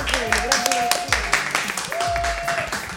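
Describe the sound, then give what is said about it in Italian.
A crowd of children and parents claps in a dense, steady patter in the play room of the Sgugnizzo Club in Posillipo, Naples, mixed with cheering voices and a couple of drawn-out whoops rising over the applause. “Un applauso, fatevi sentire.”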